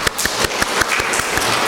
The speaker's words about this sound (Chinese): 这样我们都很欢迎他，我们首先用掌声欢迎张传道，好吗？